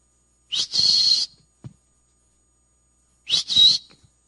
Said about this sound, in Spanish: Para usted quizás eso no quiera decir mucho. Pero para mí, ese era el silbido que yo escuchaba cuando yo estaba en Sears, en la hilera de la tecnología